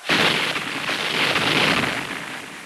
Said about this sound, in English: Union cannons fire over the trench at the enemy, still far across the field. Explosions send earth and smoke high into the air.